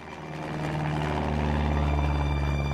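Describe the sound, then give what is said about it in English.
Steady, loud droning of a Cessna propeller plane's engine from inside the cabin, with propellers spinning and wind rushing into the fuselage, a low humming tone and broad roaring noise that holds constant throughout, no voices. “We'll start, as one does, inside a Cessna.”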